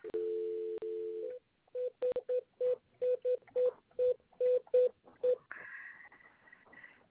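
A steady dial tone gives way to about eleven quick telephone keypad beeps in an uneven rhythm, then a higher, sustained tone takes over. Clear, with no voices.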